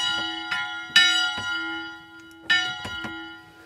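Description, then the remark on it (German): Church bells in a church tower, rung by people who climbed up it, ring out in an uneven pealing pattern, with several bright strikes whose long metallic tones hum and overlap as they decay. No one speaks. “Verdient können wir die Kirchenglocken läuten lassen.”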